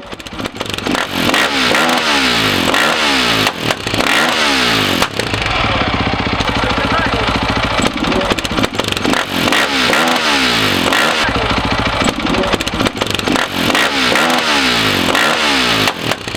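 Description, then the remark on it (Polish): A motorcycle engine revs loudly and repeatedly at a motorcycle event opening the 2019 riding season, the pitch sweeping up and down in rapid throttle bursts, with a steady roar between revs and no talking. “Mam tutaj dużo kolegów, którzy mnie zaprosili do tej szkoły, żeby spędzić dzień Wagarowicza, a że jeszcze na motocyklu, po prostu przyjechałem swoim motocyklem z kolegami.”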